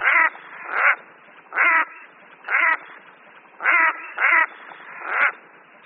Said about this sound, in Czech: Hlas samice kopřivky se podobá káchání samice kachny divoké, jen poněkud vyšší a méně hlasité.